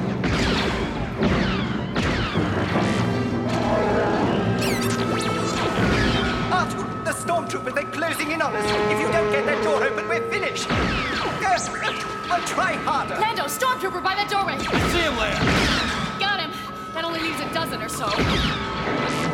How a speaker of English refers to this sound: And, attempting to escape to the Millennium Falcon, Leia, Lando, Chewbacca, C-3PO, and R2-D2 are trapped by a locked blast door. As Imperial stormtroopers open fire on them.